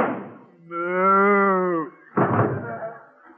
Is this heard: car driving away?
no